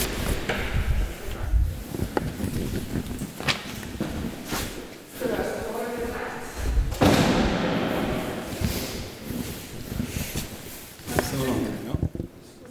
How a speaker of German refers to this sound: Das ist gerade die Tür. Genau.